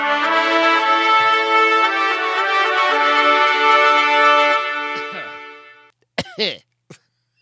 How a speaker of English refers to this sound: You all right? I just instantly cough when I hear that music. I don't know what that's about.